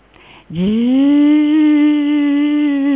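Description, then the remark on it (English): A voice imitates a mosquito sounding like an airplane with a loud, sustained droning hum that swoops slightly upward at the start, then holds a steady buzzing pitch for about two and a half seconds. “He's just imitating an airplane.”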